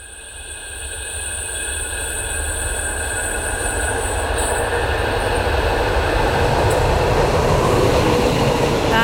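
A train rolls past with loud, sustained high-pitched wheel squeal ringing over a steady rumbling roar that builds gradually, with no voices.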